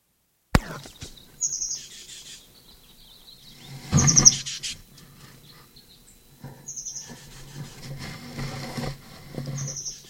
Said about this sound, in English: 7:22. Plain titmouse. This is the Moline Gate bird, or at least below the transverse roadway.